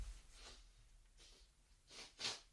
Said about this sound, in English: I feel like I need to wipe my nose. I do apologize for any kind of body-related issues like coughing, sniffing, wiping my nose, any of those sorts of things.